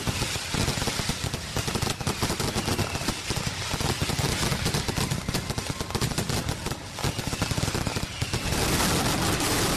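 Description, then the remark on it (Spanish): A mascletà firecracker barrage in Madrid explodes nonstop, a dense, loud rattle of rapid cracks and bangs merging into a continuous roar that swells toward the end, with no voices. “Que las tres banderas, la de España, la de Madrid y la de la Comunidad Valenciana, estén unidas en un solo disparo de una mascleta que desde luego es histórica para nosotros.”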